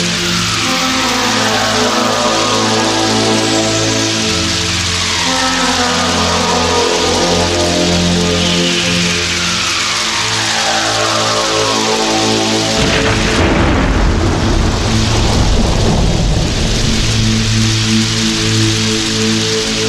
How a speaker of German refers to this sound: Doch in dieser Nacht entlädt sich ein Gewitter über der Gegend.